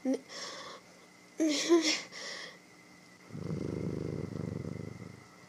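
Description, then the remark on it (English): A person's voice imitates a cat's purr: a low, rhythmic rumbling that runs steadily for a couple of seconds, fairly loud, following a few short vocal sounds. “No, it's not just an act. I purr when I'm enjoying myself.”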